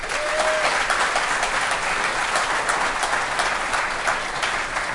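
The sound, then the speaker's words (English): Steady applause from a sizable audience, a dense wash of many hands clapping at once, sustained evenly at a fairly loud level for the whole stretch with no voices standing out. “And Applaud if you think the shape of the glass affecting drunkenness is a fiction.”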